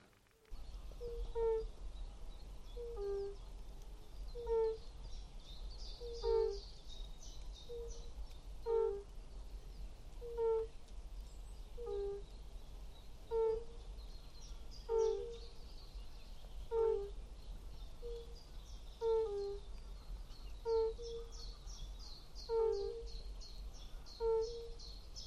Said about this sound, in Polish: Żaby zielone też słychać jakieś.